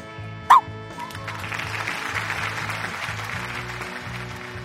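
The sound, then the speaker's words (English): Blanca, a small shaggy white therapy dog, gives one short, sharp bark near the start, then stays quiet while a steady rhythmic background plays on underneath. “And that's Blanca, a little shaggy white dog and the hero of this story.”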